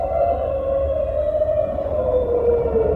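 A long, sustained whale-song-like cry of the Pokémon Lugia glides slowly downward in pitch, steady and mournful, over a low rumbling background with no talking.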